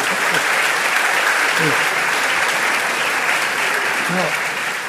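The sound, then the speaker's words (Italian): An audience applauds steadily for about five seconds, a dense, even wash of clapping that fades slightly at the end, with a faint voice briefly audible underneath. “No, non dovete fare troppi applausi, perché l'applauso denuncerebbe, una mente un po' analitica come io credo di avere, che di tutto quello che abbiamo detto finora non ve ne frega niente.”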